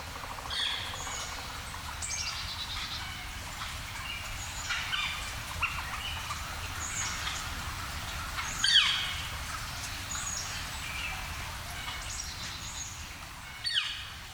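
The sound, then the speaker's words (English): A northern flicker calls repeatedly from a treetop in fall at Devil's Den State Park, sharp notes over a steady outdoor hum, with a few louder calls standing out, no voices present. “Here's a flicker this fall calling from a treetop at Devil's Den State Park.”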